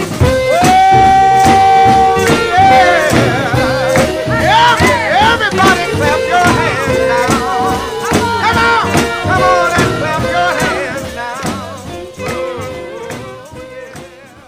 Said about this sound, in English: Wow, what an eclectic mix of spiritual and gospel music we've heard on this afternoon's Come Sunday program.